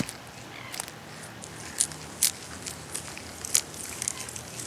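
A quokka munching and crunching on leaves: wet munching and crunching, a series of irregular crisp bites and chewing clicks over a quiet outdoor background, the sharpest crunches standing out every half second or so.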